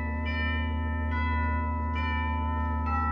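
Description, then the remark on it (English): A doorbell of a house in Santa Monica chimes repeatedly as fog closes in, four ringing tones spaced under a second apart, each note lingering and overlapping the next over a steady low hum, with no one speaking. “Fog was closing in over the house when I rang the bell.”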